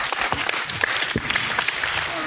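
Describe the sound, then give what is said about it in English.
Steady applause from a live audience, a dense wash of many hands clapping at an even, sustained level, with faint voices mixed in underneath. “Give them a round of applause, please.”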